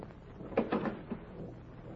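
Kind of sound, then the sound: household object, door being opened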